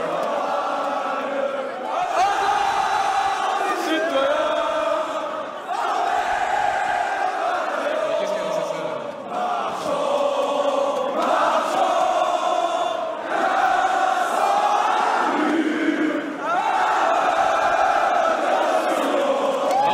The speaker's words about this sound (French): Ils sont en train de chanter la Marseillaise. The national hymne for the French.